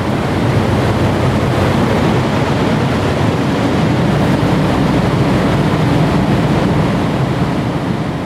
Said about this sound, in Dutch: En ik kwam daar aan, ik stapte uit de auto en ik hoorde eigenlijk meteen het gonzende geluid van... Nou ja, het zijn ook hele grote ventilatoren. Dus ja, stel je tafelventilator voor, maar dan veel groter en met veel meer lawaai.